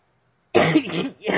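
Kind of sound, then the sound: human body sound, coughing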